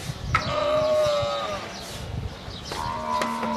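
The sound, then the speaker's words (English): A camel, one of 4,000 at a state-of-the-art camel dairy in the desert outside Dubai, gives two long, groaning, harmonic bellows, the first stretching over a second and the second shorter, with no talking, just a faint outdoor background between calls. “Answer, camel. 4,000 of them in a state-of-the-art dairy in the desert outside the city of Dubai.”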